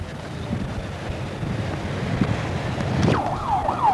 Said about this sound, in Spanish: Un mesero por la calle y una sirena sonando en las cercanías del puente de Alvarado, casi esquina con la avenida de los Insurgentes. Viernes por la noche en la ciudad más grande del mundo